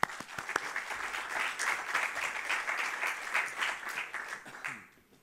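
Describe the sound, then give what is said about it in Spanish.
Audience applause for Carles Cantó of Sportsan Entertainment at a forum, a dense steady patter of many hands clapping at moderate volume for about five seconds, then fading out quickly at the end. “Lo dicho, a todos muchas gracias, un fuerte abrazo y os pido un cariñoso aplauso para Carles Cantó.”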